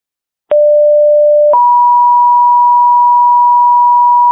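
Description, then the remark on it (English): A two-tone fire dispatch pager alert: a steady lower tone for about a second, then a higher pure tone that holds to the end, loud and clean with no voices. It is the second page, calling a crew to 421 3rd Street Northwest, Bremer County, for fire alarms going off. “This is your second page. You're needed at 421 3rd Street Northwest for fire alarms that are going off.”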